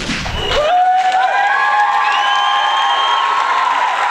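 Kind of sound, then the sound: crowd, audience cheering and applause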